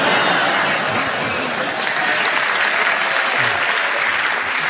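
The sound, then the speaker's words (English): Steady, dense applause from a game-show audience endorsing an extra point for a contestant, a continuous wash of many hands clapping at an even loudness throughout, with no voices standing out. “Audience applause endorses that you should have an extra point”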